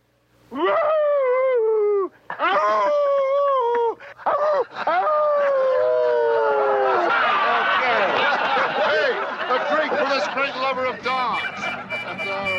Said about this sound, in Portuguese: Engraçado, ele começa a uivar, né? Ahu! Uivando, né? É muito legal.